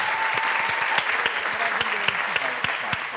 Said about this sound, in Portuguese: Palmas para Marcelo Médici.